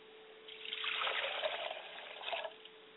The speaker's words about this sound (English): And I always remember to pour water to the ground so that it will be fertile, and wherever it hits the ground, it will take up root and grow.